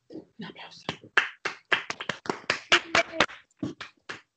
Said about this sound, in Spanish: Un aplauso.